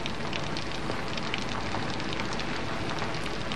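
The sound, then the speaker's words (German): Steady rain falling, a dense continuous patter with scattered brighter drop hits, moderately loud, no voices. “Wie es jetzt regnet. Nur Regen”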